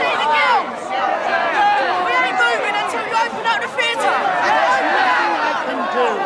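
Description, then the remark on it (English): Dense crowd chatter outside a theatre as a secretary pushes through the crowds, many overlapping voices forming a steady, loud babble with no single speaker standing out, holding constant throughout. “As Lord Cromer's secretary pushes through the crowds for his lordship, Laura arrives in her Rolls Royce.”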